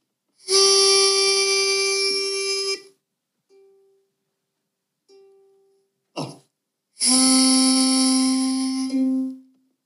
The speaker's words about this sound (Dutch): Het fluitje. Stemfluit, ik heb nog nooit de stemfluit gezien bij een ukulele. Nee, ik ook niet. Maar dit is de G.